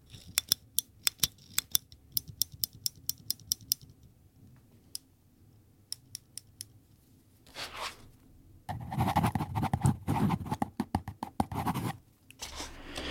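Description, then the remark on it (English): A Rotring mechanical pencil clicked repeatedly, a quick run of sharp dry clicks followed by a few sparser ones, then louder scratchy rustling toward the end. No one speaks. “I have a mechanical pencil too. It's a Rotring.”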